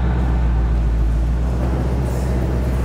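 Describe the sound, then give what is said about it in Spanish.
A steady car engine hums and rumbles at an even level throughout, a continuous low drone with no voices or other distinct sounds on top, as a mechanic checks a problem with the car. “Sí, vamos a ver qué dice el carro.”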